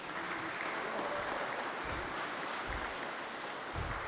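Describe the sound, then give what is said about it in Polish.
Steady audience applause thanking a guest, the parish priest of the jubilee cathedral church of St. Nicholas in the Kalisz diocese, during the jubilee year. A dense wash of many hands clapping continuously at a moderate, even level, with no voices standing out. “Wielkie brawa, dziękujemy.”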